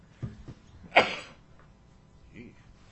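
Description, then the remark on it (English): A single sharp, explosive sneeze bursts out after a brief intake of breath, loud against a quiet background during a committee hearing, with a faint murmur of voices afterward. “Bless you.”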